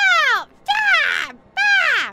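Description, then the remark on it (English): Three loud, harsh screeches from the bottom of a staircase, each a raspy cry that slides downward in pitch, separated by brief pauses. No voices are heard. “A screech can be heard from the bottom of the stairs.”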